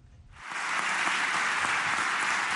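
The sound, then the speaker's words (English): Sustained, rousing applause from parliamentary deputies of Turkish President Recep Tayyip Erdogan's party swells in after a brief quiet moment, a dense, steady roar of clapping with no voices heard. “To rousing applause from parliamentary deputies of his party, Turkish President Recep Tayyip Erdogan Wednesday accused Western countries of seeking to relaunch the Crusades.”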